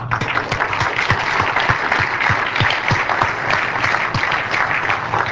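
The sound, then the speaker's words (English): An audience applauds for worshippers who raised their hands during prayer, a dense wash of many hands clapping at a constant, fairly loud level with a few sharper individual claps standing out, and no voices heard over it. “And those precious saints that raise their hands, Lord, we just thank you, and let's clap for them.”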